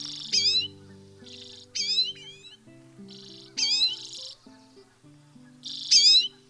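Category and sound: bird, common redpoll calls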